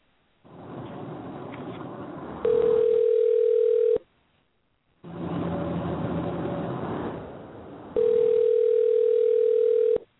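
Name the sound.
telephone dial tone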